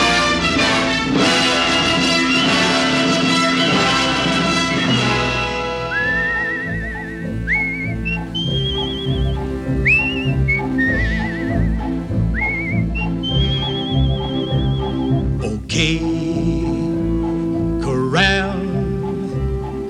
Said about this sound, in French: Et vous pouvez déjà commencer à siffler. Moi-même, je vais le faire dans 24 notes secondes.